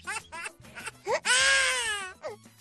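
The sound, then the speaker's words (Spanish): A baby cries in short, rising bursts that build into one long, strained wail, then a brief sob at the end. “Antes me preguntan si ese llanto es real. El llanto lo es.”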